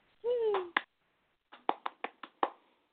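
round of applause

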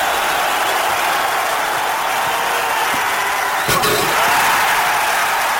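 crowd cheering

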